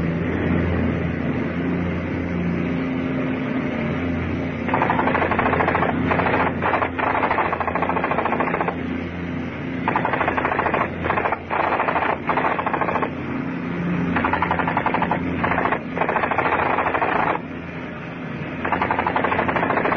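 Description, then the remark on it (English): Long bursts of machine gun fire strafing a crowd, some running several seconds and others short and choppy, with brief pauses between them over a steady low mechanical rumble. No one speaks. “Okay, man the guns. No point letting any of the rest get away.”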